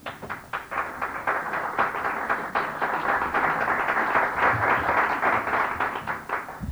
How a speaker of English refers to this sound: I don't know, when it comes to adolescence, you should maybe hold your applause till the end to see if it's worthwhile. I thought it was appropriate.